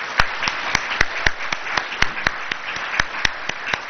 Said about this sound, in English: Everyone that's been here that's a first-timer, everyone stand up. And everyone, give them a round of applause.